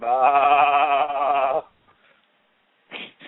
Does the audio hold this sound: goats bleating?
yes